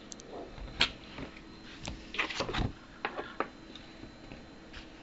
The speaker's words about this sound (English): Chain. Chain. Listen to the chain. Listen to the chain.